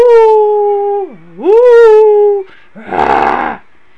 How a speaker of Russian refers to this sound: И голоса, которые он слышит, меняются. Вместо того, чтобы слышать, как щебетят птички, он начал слышать, как воют разные животные.